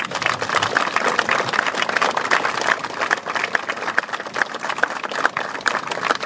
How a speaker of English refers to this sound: So I'd ask you to please give a round of applause